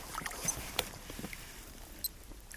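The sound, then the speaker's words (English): Light rain patters softly, with scattered small drips and ticks over a quiet, steady hiss, heard outdoors by water on a grey, damp, overcast day, with no one talking. “See, it's raining.”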